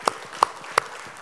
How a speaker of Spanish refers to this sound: Dale un aplauso al Señor en este día.